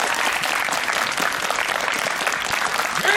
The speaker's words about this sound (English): Can we get another round of applause for the Murray Brothers? Yeah! Yeah.